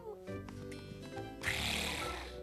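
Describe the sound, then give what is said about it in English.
A person imitates a cat while playing a pretend kitty-cat game, giving a drawn-out, tonal meow-like cry, followed by a burst of breathy, hissing noise, fairly loud. “Get it, Gilbert? Meow. We're kitty cats playing a game together. Meow.”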